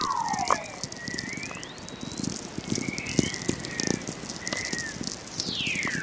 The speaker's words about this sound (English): When I discovered Earth makes its own radio waves, I was amazed because I'm a nature enthusiast anyway, you know, always been interested in astronomy and science.